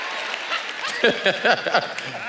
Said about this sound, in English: That, like, y'all can clap for that, especially if you're not walking. You could definitely at least clap.